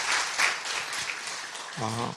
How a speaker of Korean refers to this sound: 소개는 좀 부끄러워하셔갖고 저희가 오신 분들 최근에 오신 새 가족들 다 환영하고 환대하는 의미로 우리 좀 크게 박수하도록 하겠습니다. 잘 오셨습니다. 환영합니다.